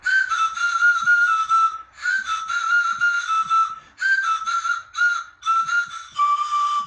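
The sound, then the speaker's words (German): A homemade pan flute made from cut-down disposable razor handles, each stuffed with a different amount of paper and taped together with Tesafilm, plays a breathy, airy melody in several short phrases separated by brief pauses, its pitch stepping between a few notes, with no voices. “Aus den Stielen von Einmalrasierern bastelten sie eine Panflöte.”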